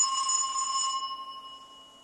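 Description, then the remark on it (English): An old-fashioned telephone bell sound effect, played back from a file in an audio editor, rings on its own, a bright metallic clatter for about a second before the tone lingers and fades away. “It's just kind of an old-fashioned bell ringer.”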